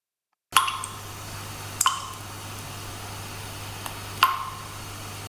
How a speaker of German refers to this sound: Eines Abends hörte sie dauerhaft einen Tropfen aus dem Wasserhahn.